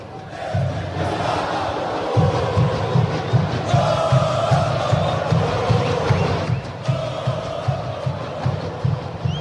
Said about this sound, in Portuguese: Galera, faz a festa, né? Agora a organizada puxando. Vamos ouvir mais um pouquinho da torcida do Coxa em Itaquera.